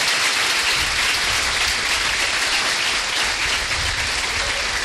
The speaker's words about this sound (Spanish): Ahora un fuerte aplauso que se oiga hasta la playa.